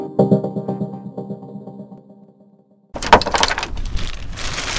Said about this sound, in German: Mittwochabend, 22:30. Es regnet und es ist kalt. Eigentlich kein Wetter, um draußen zu sein.